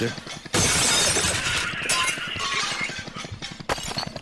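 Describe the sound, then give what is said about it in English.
Wix Cabin Tawny Beige ceramic wall and floor tiles fall off a wonky conveyor belt and shatter in a loud, sustained crash, a dense burst of breaking and clattering shards that keeps going for several seconds, with a second crash near the end and speech underneath. “They're smashing everywhere.”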